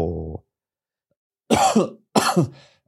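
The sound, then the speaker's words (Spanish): Two harsh coughs in quick succession, each a loud raspy burst, preceded a moment earlier by a brief low throaty grunt. No one speaks. “Mira, esa tos ha venido muy bien, para no decir lo que le pareció.”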